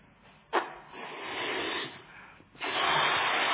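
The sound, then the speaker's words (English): Someone blows air into a balloon in two long, breathy puffs, each starting abruptly and holding a steady, hissing rush of air. No one speaks. “Putting air in.”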